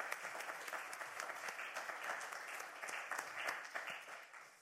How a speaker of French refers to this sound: Donc, c'est déjà dire merci à toutes les personnes qui se sont investies et qui s'investissent encore aujourd'hui. J'aimerais juste qu'on les applaudisse.